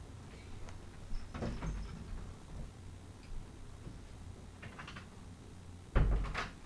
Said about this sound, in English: Sorry about that. I had to close the door.